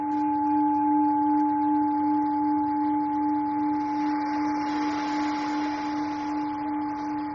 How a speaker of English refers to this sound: So let's begin by finding a comfortable place to be and allow the sound of the bells to take you into a deeply relaxed and meditative state.